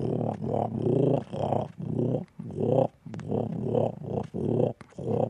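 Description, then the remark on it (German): An animal sound imitator's voice imitates a grass frog's croaking: a steady run of low, grumbling, growl-like croaks in short bursts with brief gaps, fairly loud. “Okay, jetzt der Grasfrosch und anschließend nochmal die Erdkröte. Der Grasfrosch knurrt und murrt nur vor sich hin.”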